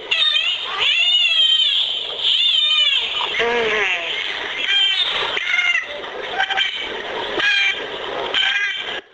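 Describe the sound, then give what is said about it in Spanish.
A continuous stream of complex squealing whistles and warbling cries from a toothed whale, rising and falling in pitch, overlapping and fairly loud, resembling a flock of screeching gulls. “Pues sí, podría confundirse con una bandada de gaviotas, ¿no? Sí, puede hacer unos sonidos tan complejos como los que siguen, que son más bien difíciles de describir.”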